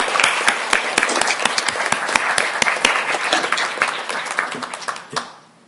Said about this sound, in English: So thank you. Thank you for your service. And I'd really like to give him a round of applause.